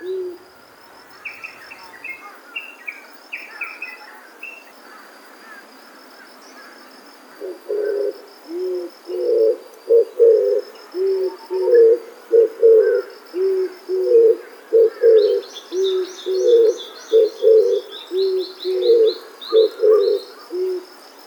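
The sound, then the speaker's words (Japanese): A Ryukyu turtle dove coos among sugarcane fields in the tropical morning sun, already hot air, in a steady, repeating series of low, soft phrases, clear, starting after several quiet seconds, with faint high chirping from other birds in the background. “琉球キジバトのさえずりがすでに熱くなった空気を揺らしながら流れていきます。”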